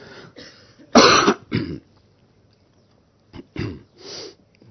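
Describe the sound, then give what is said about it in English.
A person coughs: one loud, harsh cough quickly followed by a weaker one, then after a short quiet pause, a few softer coughs and a throat-clearing rasp. “It's a coughing weather.”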